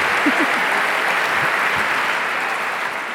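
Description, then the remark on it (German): An audience applauds a speaker steadily, a dense wash of many hands clapping at an even, fairly loud level, with no individual claps standing out and no voices on top. “dein Applaus, deine Bakterien.”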